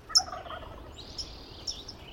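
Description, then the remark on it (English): A creek at Oak Ridge State Park in Sonoma County, recorded in 2009 before the drought, rushes steadily in the background while birds call over it, including a loud gobbling call near the start and fainter calls throughout; no one speaks. “This is 2009, before the drought. Nearby creek.”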